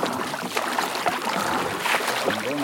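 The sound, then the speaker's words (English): A boat travelling up a major tributary river from Tefé, with a steady rushing wash of water against the hull and a low motor drone running throughout, fairly loud. “But about 4 hours by boat up a major tributary from Tefé”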